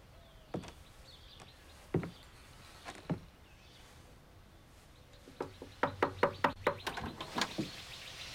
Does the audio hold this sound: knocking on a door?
yes